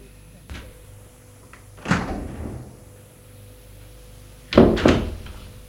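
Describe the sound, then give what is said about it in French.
Keys rattle in a lock, then a door opens with a few heavy wooden thunks, the loudest clunk coming at the end, against a quiet background. “La porte s'est ouverte.”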